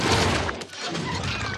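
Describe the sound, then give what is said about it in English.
A racing craft dives under a layer of brown liquid candy and crashes through peppermint stick trees in the candy land of Sugar Rush, a dense burst of cracking, snapping and shattering debris that briefly dips, then surges again in a continuous rough clatter. “The craft flies through more cotton candy, then dives under a layer of brown liquid candy and crashes into peppermint stick trees.”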